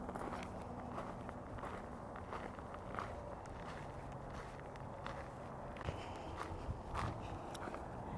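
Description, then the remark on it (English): Steady footsteps on a soft, thawed path that is not muddy and no longer snow-covered, a continuous soft scuffing and light crunching at an even walking pace, fairly quiet with a low hum underneath and no voices. “It's good to hear the sound of that under my feet instead of the sound of crunching snow, though that's a nice sound too.”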